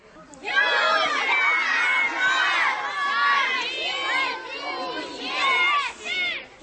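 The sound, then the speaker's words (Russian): A large crowd filling a forest at a Belarusian-language winter folk festival shouts and cheers together in a loud, sustained swell of many voices, with overlapping high calls rising and falling for several seconds before briefly dipping and surging again. “Шматликая публика, якая наполнила лес, так само подхопливала мовную гульню.”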